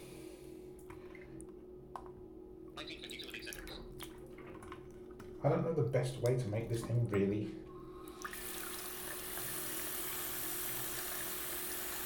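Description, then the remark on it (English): Water sloshes and splashes in a sink in a brief, loud burst near the middle, followed by a steady watery hiss, with a person speaking quietly earlier on; a talking wristwatch is sitting underwater on the bottom of the sink. “So let's, it's right underwater, sitting on the bottom of the sink.”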